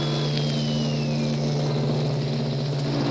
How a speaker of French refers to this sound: Nous entrons dans le grand port de New York. Tous les bateaux pompes nous accompagnent. Nous sommes salués au passage par les sirènes des navires à l'ancre. Écoutez-les.